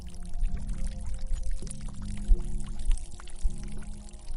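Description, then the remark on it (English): A person urinates outdoors by a trail running parallel to a river: a steady stream of liquid pours and splashes continuously, moderately loud, with a low rumbling undertone and no voices. “Once I was sure I was far enough away, I started doing my business.”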